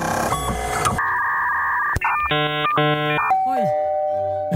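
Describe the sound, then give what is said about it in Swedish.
A computer, called the LinkedIn computer, plays an electronic two-note doorbell chime, pling-plong, bright and clear, set among other synthetic beeps and a short falling tone. “Hörde ni pling-plong på slutet också? En dörrklocka.”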